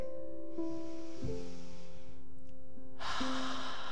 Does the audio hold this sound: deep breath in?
yes